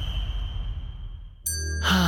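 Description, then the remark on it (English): A bell rings with a sustained, fading tone, then a second bright, clear ding strikes partway through, followed by a brief rush of noise. It is moderately loud, with no talking. “Well, every time a bell rings, a parent has just talked to their kids about underage marijuana misuse and how it can harm a healthy, growing brain.”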